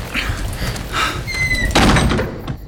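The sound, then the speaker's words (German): The crooked door of a simple wooden hut creaks and rattles as it swings open during a thunderstorm, with a high squeak of the hinges, then shuts with a dull thump, fairly loud, no voices. “Peter rüttelte an der Tür. Glück gehabt, ist nicht abgeschlossen. Los, schnell rein da.”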